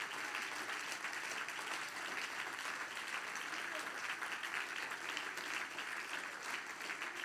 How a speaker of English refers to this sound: Everybody stand and clap your hands to the Lord. Everybody stand up and clap your hands to Jesus.